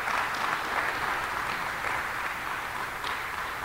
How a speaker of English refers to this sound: Let's give them another great big round of applause.